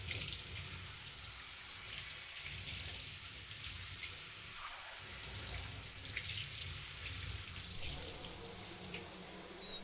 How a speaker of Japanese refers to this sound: シャワー熱くないですか？その表情は大丈夫そうですね。